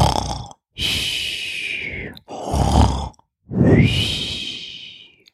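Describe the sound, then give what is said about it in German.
A voice imitates snoring: three loud, rasping breaths, each with a low throaty rumble and a hissy, airy tail, separated by short pauses. “Kurz vor dem Bärenkind schlüpft sie in die Höhle am Waldsee, legt sich auf einen Steinvorsprung unter der Höhlendecke und beginnt nicht sehr elfenhaft zu schnarchen.”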